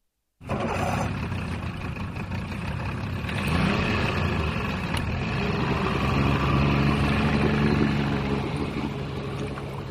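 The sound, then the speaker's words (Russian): A motorboat engine chugs steadily and loudly as the boat pulls away from a harbour after a sudden start, a continuous low rumbling drone with a rough puttering texture that holds for the whole stretch without any voices. “Моторка тарахтя отошла от гавани.”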